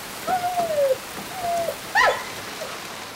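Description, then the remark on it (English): Heavy rain hisses steadily throughout, with a few short, clear hooting or whistling calls rising above the downpour. No one speaks. “We can't leave Skipper outside in this rain”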